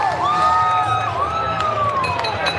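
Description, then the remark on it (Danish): A lively, euphoric street crowd of Biden supporters with car horns honking over it, several sustained, wavering tones overlapping and sliding in pitch through a steady, loud wash of noise. “Folk dytter og er enormt euforiske over det her. Vi kan prøve at høre det her i baggrunden.”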